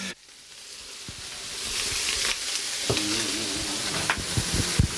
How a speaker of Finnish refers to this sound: Nyt tässä lorisee altaaseen kylmää vettä ja me pistän siihen tämän löysän puuron jäähtymään.